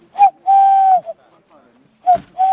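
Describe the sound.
A person whistles an owl call without any device to lure tawny owls and pygmy owls: clear whistled hoots, a short note, a long steady one, a pause, then another short note leading into a sustained tone. No talking.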